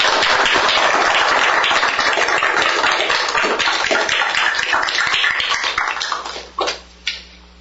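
A crowd applauds in a dense, steady wash of clapping that holds loud for about six seconds, then thins out, ending with a few last scattered claps.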